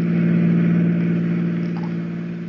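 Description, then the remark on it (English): A car engine drones steadily as the vehicle speeds along on a windy night with a door open, a loud, continuous low hum with road rumble that eases slightly toward the end. No voices are heard. “A fast-moving car, a windy night, an open door”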